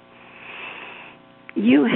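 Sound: throat clearing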